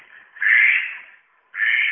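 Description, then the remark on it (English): A magpie gives two loud, harsh, rasping chatters, the first longer and fading, the second starting abruptly after a short pause, with no talking. “There's a magpie. If you don't see him, you can hear him.”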